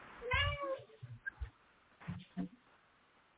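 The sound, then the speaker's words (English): A single drawn-out meow from Chubby Cubby Cake, a cat, meowing through a door, fairly loud, with a rising then falling pitch, followed by a few soft thumps and a brief murmur of a voice. “Is that your My cat? Cat's talking.”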